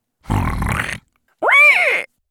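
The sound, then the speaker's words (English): A wild boar gives a rough, breathy snort, then after a short pause a loud voiced grunt that rises and falls in pitch. Two separate sounds with no talking. “In fact, his toe was just breaking the surface of the water when he heard a snort and a grunt.”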